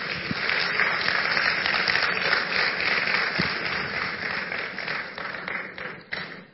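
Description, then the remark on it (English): An audience claps for Jesus together in a steady, dense wash of applause that holds for several seconds, then thins out slightly toward the end, with no talking over it. “Clap for Jesus.”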